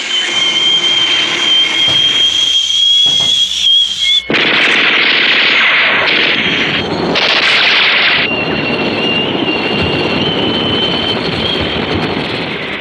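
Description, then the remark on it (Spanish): A jet descends at great speed over the desert with a loud, continuous roar and high whine, broken by harsh bursts of rapid anti-aircraft gunfire and booming blasts that swell and cut out. No one speaks. “Desciende a una velocidad pasmosa y escalofriante. Deja arriba a los cazas frustrados y lejos a las baterías antiaéreas.”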